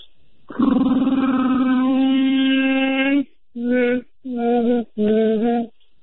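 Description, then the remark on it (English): A voice imitates a Wookiee or Sasquatch call: one long, loud, rough-toned howl followed by three shorter, evenly spaced bursts of the same growling cry, with no speech. “But I got a Wookiee call or Sasquatch.”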